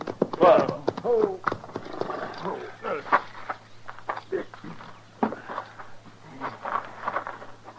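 Horses' hooves clip-clop, the uneven beats slowing and thinning out as the animals come to a stop so their riders can rest them, with a low steady hum and some snorting sounds near the start.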